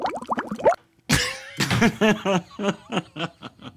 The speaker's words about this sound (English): Just a guy blowing bubbles into a glass of milk.